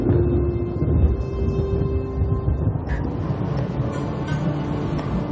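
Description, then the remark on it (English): Rolling thunder from thunderstorms off on the horizon rumbles deep and low, a continuous heavy roar holding at steady loudness for several seconds, with no voices. “Off on the horizon, they rumble. Rolling across the land, they darken the skies to then spark fire in the darkness, letting out an unmistakable roar.”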